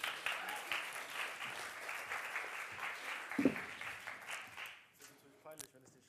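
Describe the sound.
A crowd applauds a volunteer coming up on stage, with dense, steady clapping for about five seconds, then the applause fades out as a voice begins speaking.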